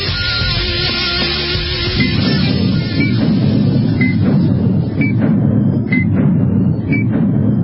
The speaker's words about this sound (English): What is that? What is that countdown to? That sounds like something's about to go boom. Something is about to go boom.